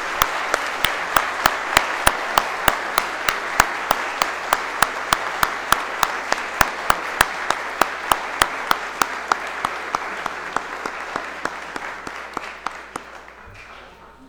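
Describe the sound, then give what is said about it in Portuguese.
An audience at a ceremony presenting the title of honorary citizen of Piedade applauds steadily for about fourteen seconds, a dense wash of clapping with some sharper individual claps standing out, gradually thinning and fading toward the end. No one speaks. “E aplauso de todos.”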